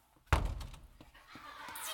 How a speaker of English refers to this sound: Fine. I will break down the door. Ein, zwei.